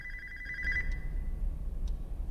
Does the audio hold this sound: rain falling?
no